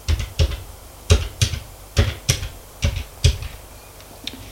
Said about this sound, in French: s'asseoir à son bureau, prendre le téléphone et faire un numéro.